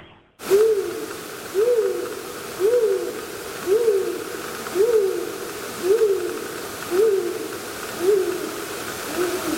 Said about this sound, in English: Something you'd hear on the hike up Oyster Dome. That's the sound of a great gray owl attempting to call in a mate.